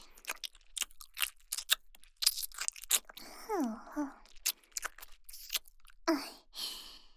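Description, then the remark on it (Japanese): Wet, sticky mouth sounds of someone lightly licking an unwrapped piece of hard candy to soften it, with smacking clicks and slurps in an uneven rhythm, interrupted by breathy sighs and soft moaning vocalizations. “まずは、包み紙を取ったキャンディーを軽く舐めて、柔らかくするね。”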